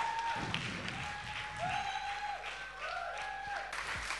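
An audience applauds steadily, a dense wash of many hands clapping with no words spoken, while faint sustained tones with rising swoops sound underneath.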